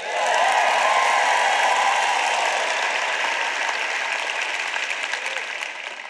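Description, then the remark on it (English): An audience breaks into sustained applause during a sermon, a dense wash of many hands clapping at once, steady and loud throughout before easing off slightly at the end. No one speaks over it. “You know, preachers tell people to clap just so they get a chance to breathe, I think.”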